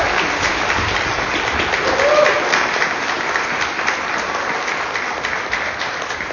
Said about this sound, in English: Praise the Lord. Amen. Can y'all just clap for like 10 seconds?